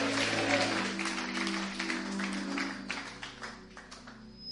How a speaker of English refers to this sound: You are too quiet. Clap your hands and say, I receive it.